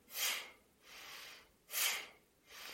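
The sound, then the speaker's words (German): Forceful bhastrika yoga breathing in its basic variation, spine and shoulders straight and arms still: two sharp, noisy exhalations alternate with softer inhalations in a steady, even rhythm, with no talking. “Also feste einen ausatmen.”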